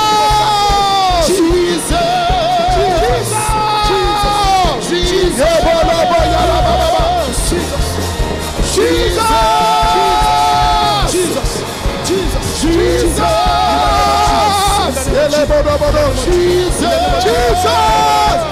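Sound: audience shouting loudly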